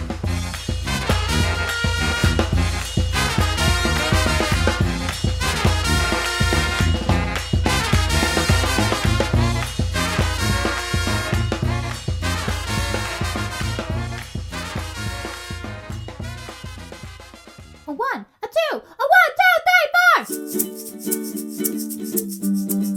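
A band's theme song plays loud and steady, full instrumentation over a heavy bass and driving beat, then breaks near the end into warbling, sweeping tones and a sustained, brighter passage.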